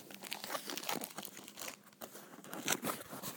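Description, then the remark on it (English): Packaging being torn open from a box, with continuous crinkling and ripping of paper or plastic in uneven bursts for a few seconds, no voices. “Let's have a nosy. It's in this box.”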